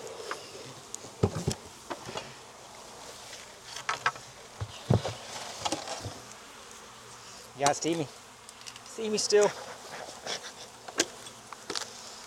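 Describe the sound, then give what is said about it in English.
A dense, steady buzz of many honeybees around an open beehive as a beekeeper works the hive boxes and frames, with scattered clicks and knocks of handling and a person speaking briefly over the humming. “Oof, there are bees in here.”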